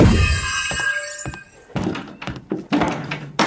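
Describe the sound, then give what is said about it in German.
A series of hard wooden knocks and thuds as a chair tips and clatters onto the floor, fairly loud, with no voices. “Ups, der Stuhl.”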